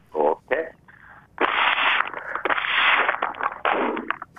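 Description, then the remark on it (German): A brief voice, then a paper bread bag from the bakery rustles and crackles in several loud, noisy bursts before a short, dull pop near the end. “Eben, die Brotsäcke von der Bäck sind nicht mehr so dicht wie früher.”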